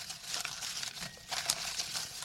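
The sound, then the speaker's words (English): Papery rustling and crinkling of slips of paper being stirred around in a fishbowl, a steady shuffle with a few sharper crackly bursts and no voices. “Let's really get those rustling sounds.”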